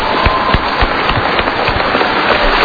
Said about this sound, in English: I want to thank our daughters who joined their dad for his last campaign. I will applaud the daughter.